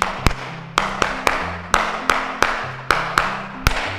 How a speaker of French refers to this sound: Très magnifique. Et applaudissons, mes amis.